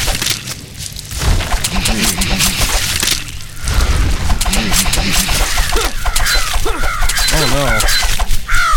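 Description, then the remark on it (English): Video game crows caw several times amid a dense, noisy mix of game sound effects, with thumps and crackling bursts, the harsh calls clustering toward the end. “Ooh, I got birds coming there.”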